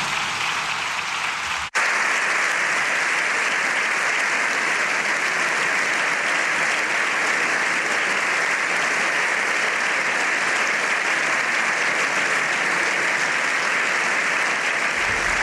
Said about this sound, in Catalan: Doncs aplaudiments de la presidenta del Congrés dels Diputats, Francina Armengol, ara mateix, després de donar-li la benvinguda, i d'aquests aplaudiments, amb un gran discurs de Francina Armengol, sentirem el Papa Lleó XIV.